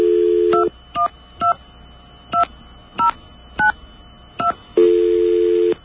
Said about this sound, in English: Oh, did you hear that? The dial tone. I got a dial tone. Wonder what happened. I stopped dialing as soon as I heard that. All right, let me start again. I'll dial slower this time, and I'll see what that dial tone means.